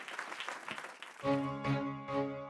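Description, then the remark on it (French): Steady, crackling applause from a studio audience in the RTL grand studio, for guest a singer, fills the first half, then a loud sustained musical chord with bright, ringing tones cuts in and the clapping fades beneath it. “Les applaudissements pour ….”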